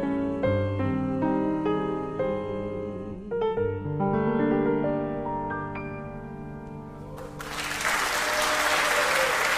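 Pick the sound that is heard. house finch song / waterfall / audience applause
audience applause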